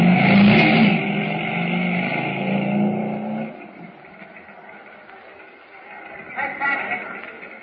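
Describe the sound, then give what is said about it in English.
A motorcycle engine roars and revs loudly with a deep, throaty rumble, then drops away after a few seconds into a quieter hum that swells briefly again near the end. “Now, mount the motorcycle and get ready.”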